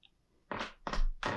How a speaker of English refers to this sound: I honestly don't know how long this chair is going to last as my podcasting chair, but it is my favorite chair. So I'm trying, but it's so loud. Like, I have to, I'm going to be a statue.